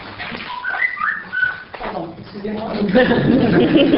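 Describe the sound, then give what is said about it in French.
A few short, high chirps and whistled tweets, like a small bird, sound in the first half, then give way to louder murmuring voices and light laughter. “Le petit oiseau a dit pas d'observation.”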